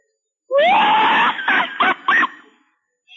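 A six-year-old child lets out a loud, high-pitched festive Mexican grito, one long sustained cry that breaks into a few quick trilling bursts before trailing off, heard alone.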